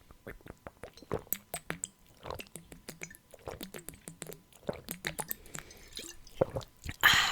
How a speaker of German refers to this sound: Ich habe noch immer keinen Schluck Wasser getrunken wegen der Nuss, aber naja, Prost.